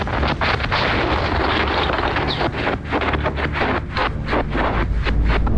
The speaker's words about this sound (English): We felt it and we heard it. It was a massive rumble.